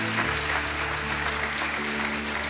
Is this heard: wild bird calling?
no